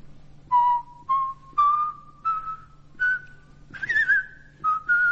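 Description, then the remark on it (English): A person whistles a short melody of about eight clear notes from the second movement of a symphony, rising gradually in pitch with brief gaps between phrases, fairly loud against a faint low hum. “I'd rather whistle it, I think.”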